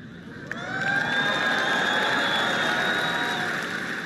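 A crowd of developers bursts into applause after a demonstration of the Google Assistant phoning to book a haircut, the clapping swelling quickly into a steady roar with sustained whistles and cheers riding on top before it begins to ease.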